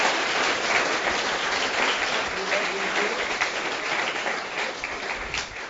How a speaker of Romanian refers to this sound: Let's give him a hand. Haideți să-l aplaudăm un pic.